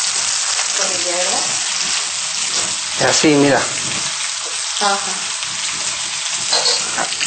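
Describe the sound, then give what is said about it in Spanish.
A finely chopped soy mixture sizzles steadily in a hot pan as it is cooked down until about half remains, a broad crackling hiss running throughout while it is stirred. Brief bits of speech break in now and then over the frying. “Hay que llegar al punto de que se quede la mitad de la soja, ¿verdad?”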